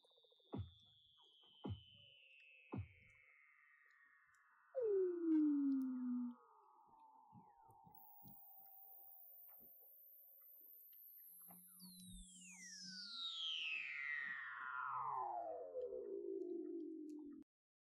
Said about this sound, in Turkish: Weddell foklarına ait akıl almaz seslerden bir kısmı şöyle.